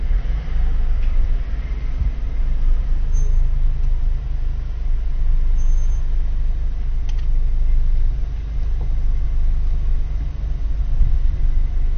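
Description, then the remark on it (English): Steady, deep rumble of the engines of four safari vehicles idling, with a fifth coming up behind; a constant low drone that holds at an even level throughout with no clear breaks. “There's four cars at the moment. There's a fifth one coming up behind.”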